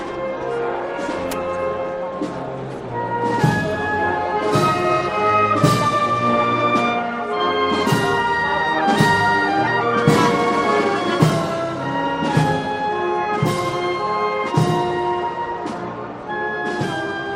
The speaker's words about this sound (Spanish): Y el paso de la Virgen del Sol, que ya camina de nuevo, comienza a revirar la derecha adelante a la izquierda atrás para buscar el pasillo central de la campana, mientras sigue sonando la tercera de las bandas que tiene esta hermandad.